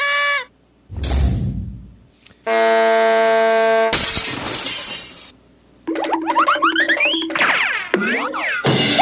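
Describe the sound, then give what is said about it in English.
A small horn gives a steady, buzzy honk lasting over a second, within a rapid string of sound effects: a short tone, a shattering crash, a noisy burst and warbling squawks. “Okay, small horn.”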